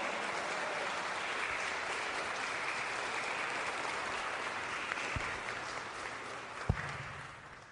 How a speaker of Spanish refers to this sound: Le damos un fuerte aplauso a la Virgen. ¡Viva la Virgen!